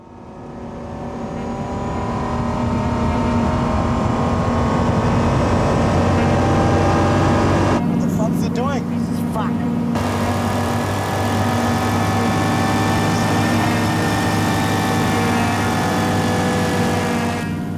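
Car engines in the film The Rover roar loudly and continuously, their deep droning hum swelling and shifting pitch as they rev, with a brief change in tone midway before the steady growl resumes. No one speaks.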